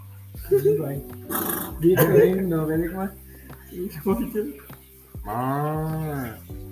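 Several cow moos, a few short calls early on and then a long, drawn-out low moo near the end, with some faint chatter in the background.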